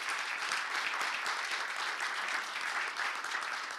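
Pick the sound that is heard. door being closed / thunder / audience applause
audience applause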